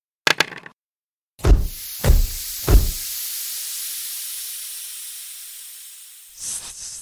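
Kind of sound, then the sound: animal, snakes hissing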